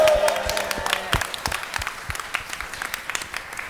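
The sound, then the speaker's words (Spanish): A small group claps steadily for a few seconds after the scores in a trivia quiz are announced, dense patter of hands at first thinning out toward the end, with a brief bit of voice or music at the very start. “En los aplausos veis al revés. Que se aplauda más.”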